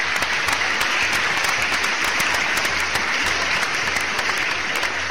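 A steady burst of audience applause, dense clapping from many hands at an even loudness for several seconds, with no one speaking over it. The audience is welcoming a guest from the tour company Adventures Venezuela on the Tierra de Aventuras programme.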